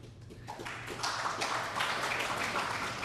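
smattering of audience applause

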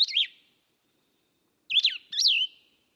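plumbeous vireo song

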